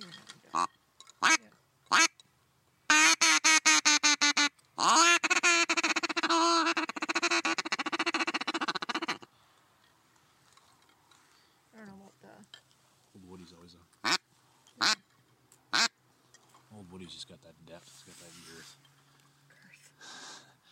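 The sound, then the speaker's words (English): Loud, nasal mallard quacks from a duck call used for duck hunting: a few single blasts, then a rapid rolling series and a long raspy run, followed by scattered short quacks over faint murmuring. “It's not that hard to call it. Mm-hmm. That's my goose. That's my other duck here.”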